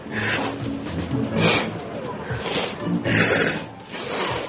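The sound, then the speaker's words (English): Several wet, noisy sniffles from crying people with runny noses, coming in irregular bursts about a second apart, fairly loud, with faint voices murmuring underneath. “It's just them sniffing their snot.”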